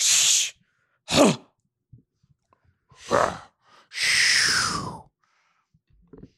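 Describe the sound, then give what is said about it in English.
A man breathes heavily: four loud, breathy huffs separated by brief silences, the last one a long, drawn-out exhale. No one speaks. “Just him breathing?”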